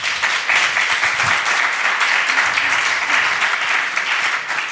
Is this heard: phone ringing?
no